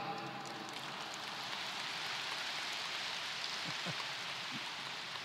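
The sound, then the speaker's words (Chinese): Soft, steady audience applause, a dense patter of many hands clapping that holds at a fairly quiet, even level throughout, with no voices. “好像鼓掌不是太响，第二个我就不讲。”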